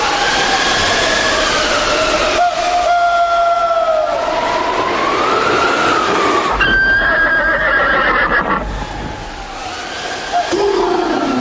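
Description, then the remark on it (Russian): Horses that have stopped in a field neigh loudly, with long, wavering whinnies that rise and fall in pitch and overlap one another, over a steady rushing background noise. No one speaks. “Кони стали, что там в поле, кто их знает, пень или волк.”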